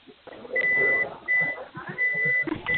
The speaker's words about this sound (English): All right, somebody has a sounds like Morse code going on over the phone here. Whoever that is, would you please stop that?